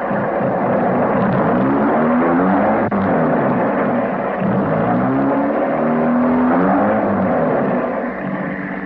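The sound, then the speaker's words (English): A car engine revs up loudly and pulls away, its pitch climbing in repeated surges as it accelerates, a steady roar filling the whole stretch with no voices. “You drive off and cover them.”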